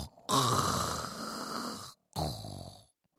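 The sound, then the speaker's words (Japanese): Two loud, drawn-out snores in a row, the first long and rattling, the second shorter, sounding exaggerated, like a voice theatrically imitating heavy snoring; two young temple apprentices lying under their futons, snoring louder than usual while pretending to sleep. “そして布団に潜り込み、いつもより大きないびきをかいて寝たふりをしました。”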